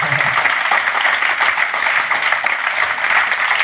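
A steady, loud round of applause from an audience, dense clapping that holds evenly for several seconds with no voices standing out.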